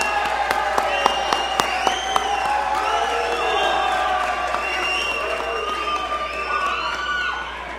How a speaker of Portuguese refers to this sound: Mais uma grande salva de palmas a todos e todas homenageadas da noite.